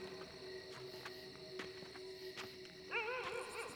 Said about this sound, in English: There's that sad dog again.